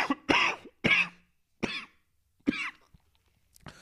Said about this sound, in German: Ein symbolischer Hustenanfall bei der Gesundheitsreform.